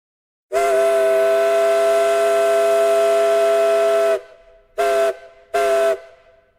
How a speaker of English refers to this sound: A big paddle wheeler was trying to make its way upriver. When we floated past, every soul on board pointed and waved and cheered. The captain saluted us with a blast of his steam whistle.